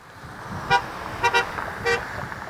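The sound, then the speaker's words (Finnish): Passing cars honk their horns in short bursts over a steady hum of traffic, one toot, then a quick double toot, then another, moderately loud. The cars honk in support of striking John Deere workers picketing by the roadside in Iowa's state capital, USA. “Ohjaavat autot tööttäävät tuen merkiksi tien varrella partioiville lakkovartioille.”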